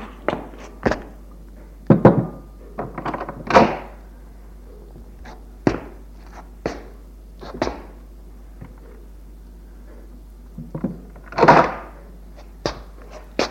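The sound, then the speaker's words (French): A servant opens a door on the first floor of a house, with a series of sharp clicks and wooden thunks, including a couple of louder rattling bursts, with no talking. “Premier étage, le domestique ouvre la porte.”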